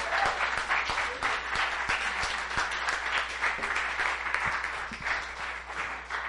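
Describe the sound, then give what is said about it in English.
An audience cheers and applauds to praise the Lord, dense clapping mixed with crowd noise at a fairly loud, even level throughout. “Give the Lord a cheer.”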